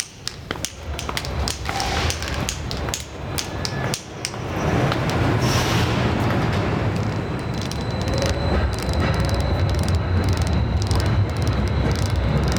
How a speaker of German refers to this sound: Ganz unten in der U-Bahn-Station angelangt,